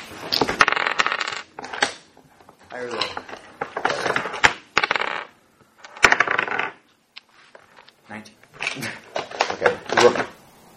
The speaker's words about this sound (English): Roll a d20.